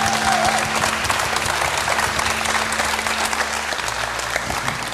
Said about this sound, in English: Give them a stand applause. Woo! Welcome.